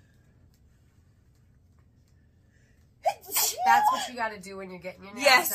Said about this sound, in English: I have to sneeze